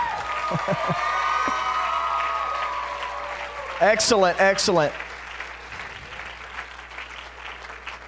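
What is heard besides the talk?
audience applause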